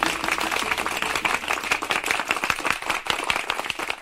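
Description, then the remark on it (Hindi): A crowd breaks into steady applause, dense overlapping claps filling the whole stretch at a fairly loud, even level with no talking. “मीना, दीपू और राजू के लिए जोरदार तालियां।”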